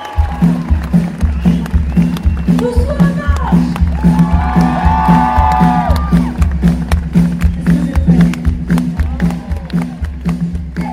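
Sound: concert crowd cheering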